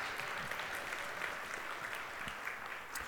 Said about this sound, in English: Yeah, you can clap for that if you want to.